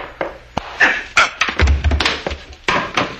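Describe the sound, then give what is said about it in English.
A sudden series of sharp knocks and heavy thuds as a man is struck hard with the butt of a gun, with a dull low thump in the middle of the scuffle. “You didn't have to hit him so hard, Frank. That's the way you hit people with the butt of a gun.”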